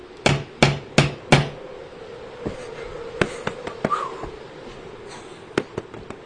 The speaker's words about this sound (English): But first I think I'll knock very loudly, just to make quite sure.